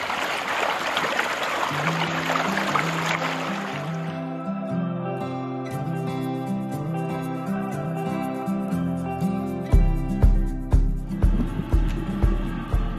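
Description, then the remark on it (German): Steady rushing water flows in a Wuhr, a mill channel fed from a stream, as people walk along it for the first few seconds, then a musical passage with sustained tones and later rhythmic pulses takes over, leaving the water faint beneath it. “Und jetzt laufen wir an der Wuhr entlang.”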